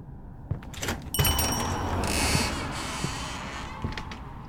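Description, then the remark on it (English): A door creaks open with a strained, whining hinge, followed by a few knocks and rattles as it swings and thuds shut, with no talking. “Nobody around here knows how to close a goddamn door?”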